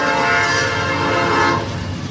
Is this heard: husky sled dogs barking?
no